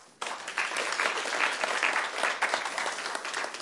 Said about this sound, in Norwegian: Tusen takk. Applaus.